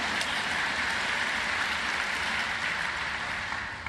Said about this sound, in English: At the outset today, yes, okay, clap, give me a chance to take a breath, that'd be good.